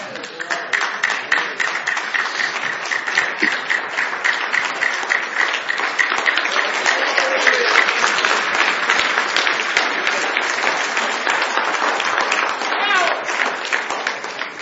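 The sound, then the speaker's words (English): A church audience claps their hands together in a dense, continuous wash of claps that stays fairly steady and loud throughout, with crowd voices faintly mixed underneath. “Y'all's hand clap reminded me of Brother Bam's old car.”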